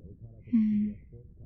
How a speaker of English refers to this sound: Oh, another yawn.